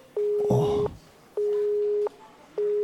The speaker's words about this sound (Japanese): 一方的に電話が切られた。